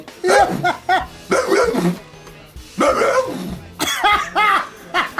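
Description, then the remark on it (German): A man down on his knees at an acting audition imitates a dog, letting out a series of loud barks and yips in several bursts with brief pauses between them. “Now, being an actor who was out of work, I got down on my knees and then proceeded to be a dog.”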